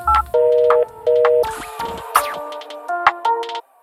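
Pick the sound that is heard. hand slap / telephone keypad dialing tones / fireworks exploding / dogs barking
telephone keypad dialing tones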